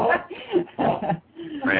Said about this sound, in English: All right, somebody's doggy is... That's my doggy, yeah. Hang on a second. Let me talk my doggy out just a moment.